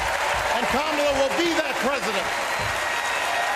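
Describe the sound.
A large crowd in Chicago cheers and applauds loudly and continuously after a speech by Barack and Michelle Obama, with dense clapping and scattered shouting voices rising above the roar.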